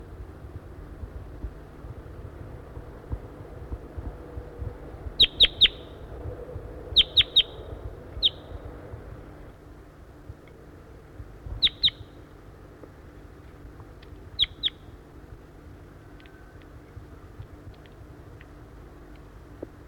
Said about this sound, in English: Recording, I hear wild crossbills around. I see two birds perched in a dead tree, a dead Table Mountain pine tree off to the northeast of the net site here, and they sounded like small race birds